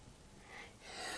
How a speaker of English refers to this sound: Oh, bless you.